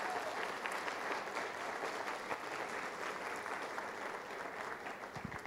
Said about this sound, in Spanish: Así que, si quieren aplaudir a nuestra compañía, esto sí se merece un aplauso.